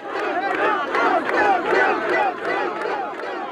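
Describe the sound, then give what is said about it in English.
A large indoor crowd at David Duke's election night party cheers his win by 227 votes, shouting continuously, a dense roar of many voices swelling in waves with whoops rising above the din, loud throughout. “That's the crowd at Duke's election night party,”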